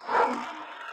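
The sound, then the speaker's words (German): A single lion roar heard from far away in the desert, muffled and rough, swelling quickly and then trailing off within about a second. No voices accompany it. “Boah, da hat ein Löwe gebrüllt in der Wüste.”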